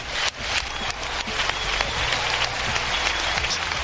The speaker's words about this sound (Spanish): Y así durante un minuto y 20 segundos de aplausos sin parar, así ha sido recibido el rey don Juan Carlos en el palco presidencial, como siempre el rey con la fiesta.